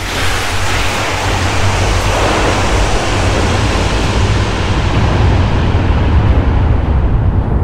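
Ocean waves roll and wash on the open ocean at night, in a steady, loud roar with a deep low-end rumble that continues for the whole stretch. No separate explosion bursts stand out, and no one speaks.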